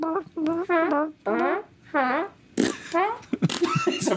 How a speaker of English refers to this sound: Instead of a dead silence, what if there's one you can fart on every step that you take?